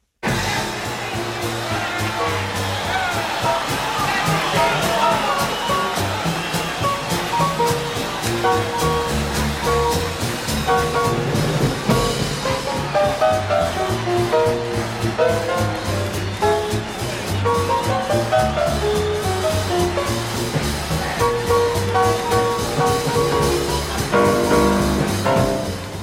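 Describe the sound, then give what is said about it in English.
A big band plays loud, driving swing live at the 1956 Newport Jazz Festival while a roaring crowd cheers and shouts throughout, a dense wash of applause and whoops blending with horns and a steady beat. “soloing over the crowd's loud cheers on his …, 1956, Newport Jazz Festival”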